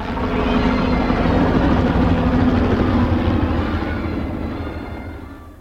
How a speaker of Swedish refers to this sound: En helikopter kom svepande över den avstängda trafikleden.